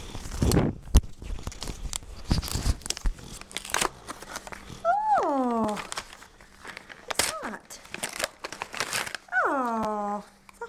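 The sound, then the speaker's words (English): Paper crackles and rips in a few quick, noisy bursts as a Christmas card envelope is torn open, followed by several high, falling vocal whines and squeals. “I'm going to open your cards first.”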